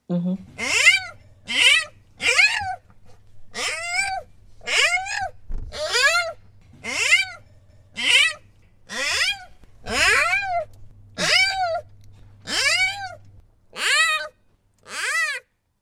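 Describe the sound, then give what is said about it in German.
A hungry newborn panda cub, about 12 centimeters long, in an incubator shortly before feeding, calls out in a steady series of about fourteen shrill, squealing cries, each rising and falling in pitch, over a low constant hum that stops near the end. “Ja, das ist ein Panda-Baby, der in einem Inkubator war und schon Hunger hat.”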